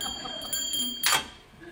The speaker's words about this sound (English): That's what phones used to sound like, right?